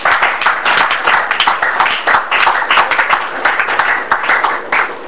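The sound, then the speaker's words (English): Sustained applause from a crowd giving a clap offering to Jesus, many hands clapping loudly and densely with a rapid, irregular patter that continues steadily throughout, with no talking over it. “give Jesus a good clap offering.”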